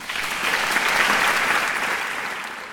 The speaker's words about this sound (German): Ihr Applaus.